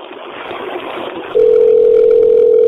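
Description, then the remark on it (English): A steady, loud telephone ringing tone sounds through the line after a stretch of hissy static, holding one even pitch to the end while waiting for a Pizza Hut restaurant to answer the call. “They'll pick up any second now, and we'll continue with this phone call.”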